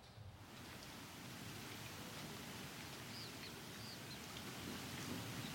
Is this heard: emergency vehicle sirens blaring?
no